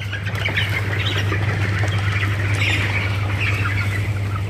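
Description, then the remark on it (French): A crowd of young chickens squawks and peeps continuously, a dense chattering chorus over a steady low mechanical hum, with no talking. “Il y a des poulets qui ont plus de plumes que d'autres.”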